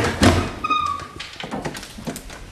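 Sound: creaking wooden door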